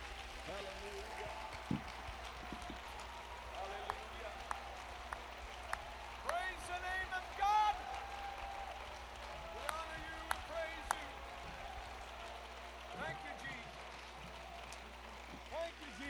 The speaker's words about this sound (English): Clap your hands, all you people. Shout unto the Lord with a voice of triumph. Let's do it together, shall we? It is possible to clap your hands and shout simultaneously.